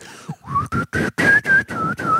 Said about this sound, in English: Most people can't whistle well.